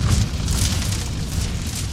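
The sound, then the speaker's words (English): A fire sound effect: a loud, steady roar with a deep rumbling low end and a crackling hiss on top, running continuously for about two seconds with no voices. “We need some, like, fire sound.”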